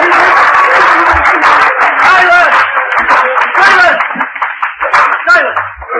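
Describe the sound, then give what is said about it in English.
A crowd of courtroom spectators breaks into applause, steady clapping mixed with a murmur of many voices, loud at first and then thinning out into scattered claps and chatter. “Sergeant-at-Arms will bring forward immediately the parties that applaud it.”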